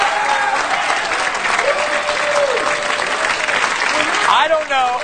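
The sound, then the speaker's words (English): Women in a game show studio audience applaud loudly and steadily for several seconds, a dense wash of clapping, with a few scattered whoops and cheers rising near the end. “I don't know what's more frightening, the fact that the women are applauding”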